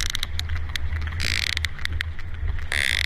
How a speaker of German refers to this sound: Es gibt auch schon erste Tierübersetzer für die Laute von Delfinen und Walen. Insbesondere an Pottwalen wird gerade gearbeitet und die klingen so.